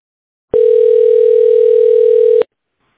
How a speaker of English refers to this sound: It's ringing.